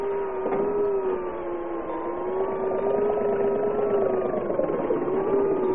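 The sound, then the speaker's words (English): A motorboat engine drones steadily as the boat heads back this way, its low hum holding a strong tone with harmonics that slowly waver, staying loud without a break and with no voices. “He's pulling someone into our boat. Oh, thank heaven. He's heading back this way.”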